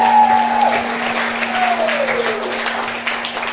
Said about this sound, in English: Let's give a round of applause for everything that's happened so far. I mean, that is brilliant.